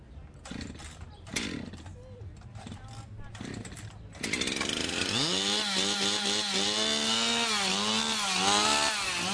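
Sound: chainsaw carving wood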